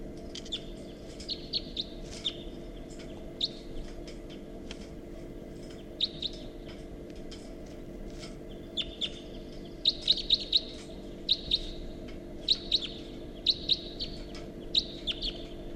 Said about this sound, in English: Recording, this is a wild bird. And that bird's flying off now with the other.